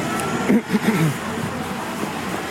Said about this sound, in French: Mais cette rue, merci, ne fonctionne pas comme zone de rencontre parce que le trafic routier est trop important. Ça sert de raccourci. Attention, hein, une voiture.